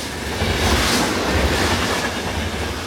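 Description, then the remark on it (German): A train rolls into a station with a steady, loud rumble of wheels on rails and a broad hiss of noise, continuous, with no voices. “Einem einfahrenden Zug.”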